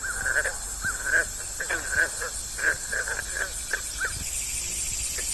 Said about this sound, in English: This week, the summertime sounds of green frogs and cicadas from a Virginia wetland and meadow set the stage